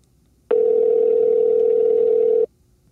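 A single steady telephone tone from an outgoing call placed on September 10th at 4 o'clock, a mid-pitched hum holding at even loudness for about two seconds before cutting off abruptly, with no voices.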